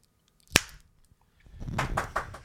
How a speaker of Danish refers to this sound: Altså det vi simpelthen gør, det er, at vi laver et ordentligt klap, så alle af lytterne kan være med. Nu får vi et synkron klap.